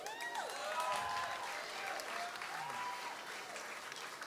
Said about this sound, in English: You came out for a really good reason. So you should give yourself a round of applause.